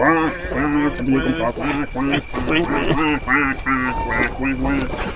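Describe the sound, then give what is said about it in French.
A loud run of nasal, squeaky duck-like quacks repeats in quick, uneven bursts for several seconds, one honk tumbling into the next with barely a pause. “2 heures que j'essaie de dormir, que je suis réveillé par mon couinement débile!”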